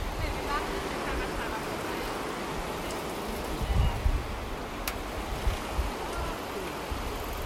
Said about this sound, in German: Als das Schiff dann seine Fahrt fortsetzt, wird die nebenliegende Kammer abgelassen und Wasser rauscht laut. Da fällt uns auf, dass es das erste Mal heute ist, dass wir das Wasser des Kanals wirklich hören können.